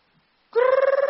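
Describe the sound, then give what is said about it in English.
An alarm rings, cutting in suddenly after a brief near-silence: a loud electronic tone with a fast, fluttering warble that keeps going steadily, with no voices. “Like my alarm is ringing now.”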